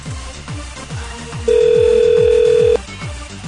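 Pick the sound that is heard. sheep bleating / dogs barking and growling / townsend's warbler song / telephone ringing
telephone ringing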